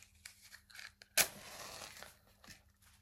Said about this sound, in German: Und entzünde den Salbei. Und zwar so, dass du dieses Streichholz oder dein Feuer so ein bisschen unter den Salbei hältst. Also du hältst deine Räucherschale ein bisschen schräg.